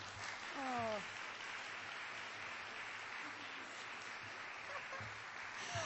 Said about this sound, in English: Writers, come. Come in. There we go. All three of you. Come on. They're very shy. Can you give them a little clap?